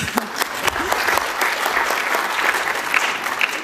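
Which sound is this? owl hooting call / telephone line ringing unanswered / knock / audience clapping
audience clapping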